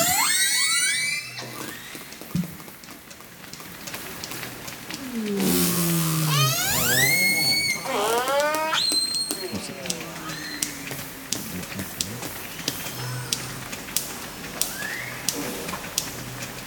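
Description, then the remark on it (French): Dolphin or orca vocalizations: high, sweeping whistles and squeals rising and falling in pitch, layered over steady rapid clicks, with a run of louder, evenly spaced clicks toward the end. “Moi, je dirais que c'est des dauphins ou des orques. Mammifères marins, en tout cas.”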